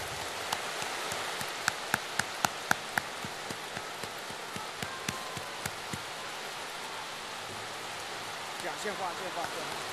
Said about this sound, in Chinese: 现在，让我们用最热烈的掌声，恭请尊敬的卢台长为我们慈悲开示。